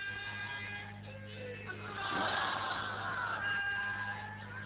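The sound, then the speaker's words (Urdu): A large crowd chants religious slogans together, their mingled voices swelling into a loud, sustained roar midway before easing off slightly, with a steady low hum underneath. “ایسے اگر نعرے مارو گے تو مزہ نہیں آئے.”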